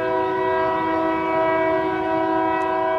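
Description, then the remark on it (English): A train horn blares continuously, a steady loud chord held for the full few seconds over the low rumble of a passing train on the railroad beside Freedom Monument Sculpture Park and the Alabama River in Montgomery, Alabama. No voices. “Stevenson walks through Freedom Monument Sculpture Park, wedged between the railroad and the banks of the Alabama River.”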